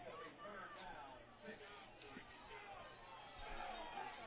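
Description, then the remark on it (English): A large football stadium crowd at a Vikings game, many having made the ride up from Lowndes County, roars and chatters in a steady, continuous, dense wash of noise, with no single voice standing out and only slight swells in volume. “You hear the crowd. Go Vikings, go. Big crowd here.”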